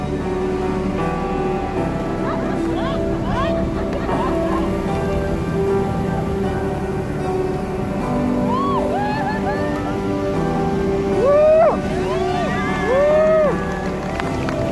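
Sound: sea waves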